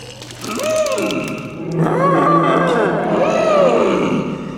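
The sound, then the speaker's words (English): The head of an elephant herd calls from far away in long, wavering trumpeting bellows, two drawn-out phrases that rise and fall in pitch over a low rumbling background, with no one talking. “Go home, because the head of the herd is calling far, far away.”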